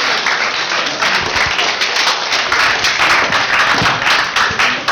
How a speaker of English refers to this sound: Great job. Can we get the applause?